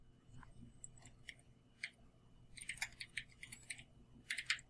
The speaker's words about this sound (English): And some clicking on your end. Click, click, click, click, click, click. The mechanical keyboard.